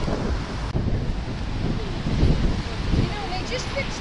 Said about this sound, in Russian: Ветрено. Очень ветрено.